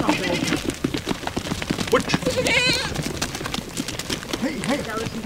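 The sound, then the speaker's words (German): A herd of goats scuffles over banana peels and vegetable scraps at a tent camp on a remote mountain in the morning, hooves clattering in a steady busy patter, with occasional wavering bleats rising above the continuous commotion. “Eine Ziegenherde rangelt um Bananenschalen und Gemüseabfälle.”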